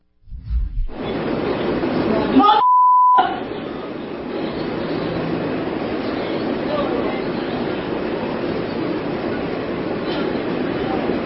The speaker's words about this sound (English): I want to show you some video. This is from 2022. This is what riding the subway in New York is actually like.